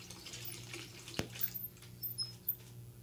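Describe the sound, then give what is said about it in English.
A bathtub tap runs with a steady rushing hiss, then a sharp click as it is shut off, leaving a quiet room with a few faint drips and trickles. “I'm turning off the water.”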